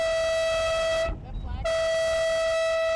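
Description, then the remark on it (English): A race horn gives the five-minute warning before the start of a Moth Worlds sailing race on the Columbia River. It blares in two long, steady blasts separated by a brief pause, a loud mid-pitched tone with a low rumble of wind beneath. “The racers get a 5-minute warning before the start.”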